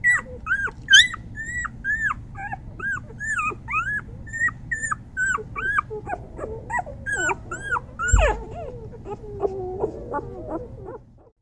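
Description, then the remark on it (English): An unhappy puppy whimpers and whines continuously in high, repeated cries with short pauses between them, fairly loud, over a low background rumble, with one sharp yelp near the end. “I'm going to turn the sound on for a bit so you can hear what it sounds like when a puppy is unhappy.”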